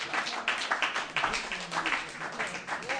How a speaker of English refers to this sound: Applause for what I do not know